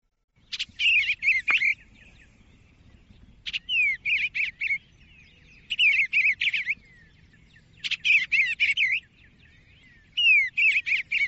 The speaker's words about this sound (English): Let's listen to some bird sounds now, because this just makes you feel like spring when you hear a bird twittering. And we could use a little bit of that. We could use a little bit of spring right now. So let's listen to the eastern bluebird.